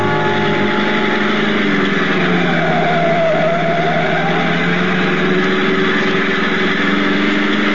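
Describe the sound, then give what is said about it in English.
A car engine runs loud and steady as the car heads off toward San Juan, a continuous mid-pitched motor drone with a slight rise in pitch as it pulls away. No one speaks. “Out to the car, fast.”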